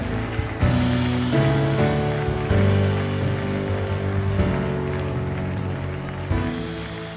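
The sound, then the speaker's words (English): An audience claps for Jesus in a dense, continuous wash of applause that holds steady for several seconds, layered over sustained organ-like chords that shift every second or so. “Come on, give Jesus a big, big hand clap.”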